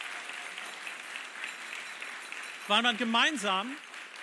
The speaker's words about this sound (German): Weil man, wie wir es auch gerade hier gemacht haben, ich bin der Band so dankbar, vielleicht solltet ihr denen nochmal einen Applaus geben, meinem Team.